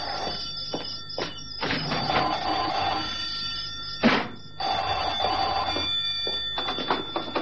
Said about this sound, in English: There's the phone. Probably for you.